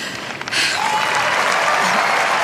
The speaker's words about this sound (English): Thank you guys, thank you very much for cheering for me.